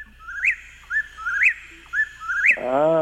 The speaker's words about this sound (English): Yeah, let's do whippoorwill. Let's get into that. Because this one starts flying through our area in the last part of March, and they will be vocal right at dusk.